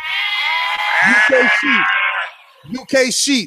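Sheep bleating loudly, a drawn-out wavering baa followed by a couple of shorter, sharper bleats after a brief pause.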